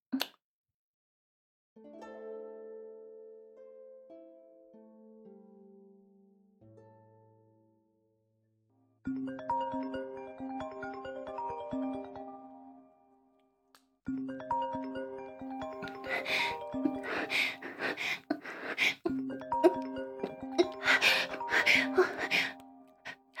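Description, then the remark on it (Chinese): A mobile phone ringtone for an incoming call from a boyfriend plays on its own, opening with a simple melody of clear electronic notes, then swelling into a fuller, louder and busier jingle that keeps repeating. “等一下，是我男朋友电话。”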